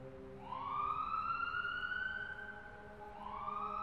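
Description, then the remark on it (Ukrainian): A police ambulance siren wails steadily as the vehicle arrives at a cliff late at night, sweeping up to a long sustained high tone, dipping, then starting to rise again. Loud and continuous, with no voices over it. “Поліційна машина швидкої допомоги приїхала до скелі запізно.”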